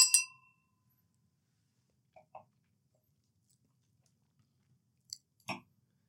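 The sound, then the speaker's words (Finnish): Glasses of Luxembourgish champagne clink together once at the start in a toast, a bright ring that fades quickly. A few faint small knocks follow, then a sharper clatter near the end, with no one talking. “No, luksemburilaista samppaniaa tähän, niin kilistelläänkö tähän otetaan, kauden alkuun?”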